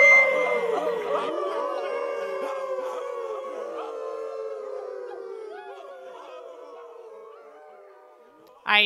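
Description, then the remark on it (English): A chorus of wolves howling together, many overlapping wavering voices rising and falling, loud at first and slowly fading over several seconds before a brief burst of noise at the end. “And they howl.”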